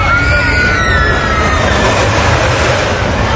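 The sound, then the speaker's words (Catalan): A roller coaster ride: a steady, loud rumble of cars on the track, with a thin, high screech or yell sliding downward over the roar. “Una muntanya russa.”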